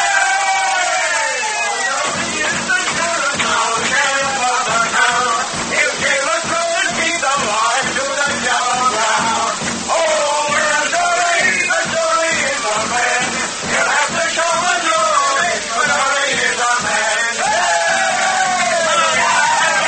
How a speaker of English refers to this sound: It's me there cheering and shouting for her.